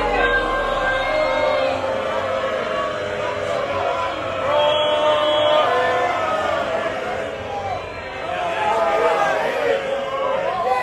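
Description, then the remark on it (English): A dense crowd of golf fans at the Ryder Cup shouting and jeering over one another, heckling Rory McIlroy, a steady roar of overlapping voices with scattered raised yells, holding loud throughout with brief swells. “Probably one of the only clips we could play with some of the heckling from fans shouting Rory there at Rory McIlroy.”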